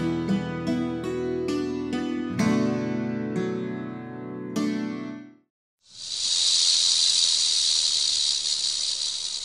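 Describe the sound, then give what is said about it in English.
A timber rattlesnake, one of Virginia's snakes, rattles in a loud, continuous dry buzz, steady, starting after a short pause that follows a few seconds of plucked musical notes. “That was the sound of a timber rattlesnake”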